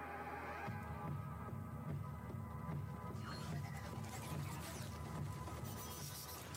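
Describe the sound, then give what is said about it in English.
A L'Oreal Professionnel Air Light Pro professional hair dryer, powered by infrared light technology, runs steadily, a continuous low throbbing hum that brightens into a harsher, airy whoosh partway through. No voices. “Innovation, Air Light Pro, the first professional hair dryer by L'Oreal Professionnel, powered by infrared light technology.”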